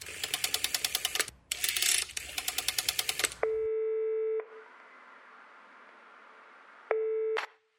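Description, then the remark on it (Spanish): A woman dials a telephone to call a friend, with rapid bursts of rotary-dial clicking, followed by two steady ringing tones over the line separated by a quiet, hissy pause. No one speaks. “Para descansar y para desahogarse, llama por teléfono a una de sus amigas.”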